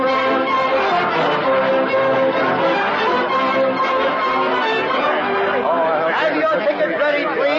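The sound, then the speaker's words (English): A dense opening-night crowd at the Majestic Theater, gathered for the musical Allegro, chatters steadily, many overlapping voices blending into a continuous murmur of indistinct conversation, with occasional brighter tones rising through the babble. “What a brilliant opening night crowd.”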